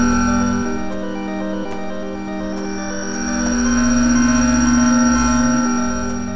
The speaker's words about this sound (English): This interference is getting worse. I'm struggling to hold on to the signal.